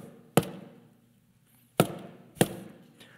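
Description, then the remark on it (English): Three sharp knocks on a door, one, then a pause and two more in quick succession, each a loud hard rap that rings out briefly, with no voices. “So I'm going to keep knocking.”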